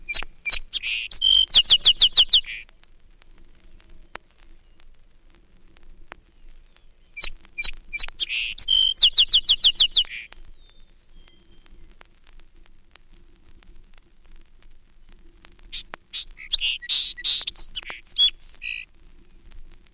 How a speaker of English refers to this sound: The well-known song sparrow comes first, singing near the Cornell campus.